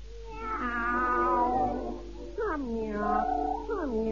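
A long, wavering meow followed by two shorter downward-sliding meows, loud, with nothing else around them.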